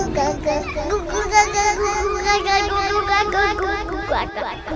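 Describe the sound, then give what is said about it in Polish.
A baby's high-pitched voice calls out again and again without stopping, over a steady babble of other children playing and chattering on the street. “Jakaś dzidzia woła nieustannie jak zapętlona MP3.”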